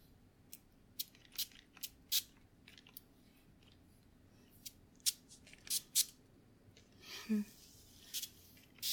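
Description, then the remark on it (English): A series of sharp clicks and taps, then a brief soft hiss of setting spray misting out, followed by another short spritz near the end. “We're just gonna spray this to set everything.”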